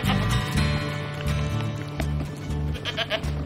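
animal, goat bleating

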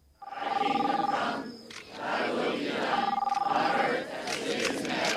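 crowd, crowd gathered

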